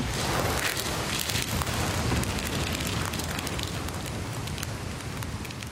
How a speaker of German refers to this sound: Ich dachte ja erst, das ist Feuerknistern. Das stimmt aber nicht. Das sind Waldgeräusche aus einem Datenwald. Und dieser Datenwald, der ist Teil einer Ausstellung zum Zustand der Welt und der Umwelt.